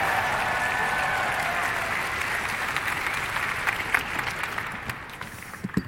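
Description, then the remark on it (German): Loud, sustained audience applause, called for as a '10-point applause', fills the room, a dense wash of clapping that holds steady for several seconds before easing slightly, with a few sharper individual claps near the end. “Wir gehen auf 7 Punkte. 8 Punkte, 9 Punkte und jetzt mit einem 10-Punkte-Applaus”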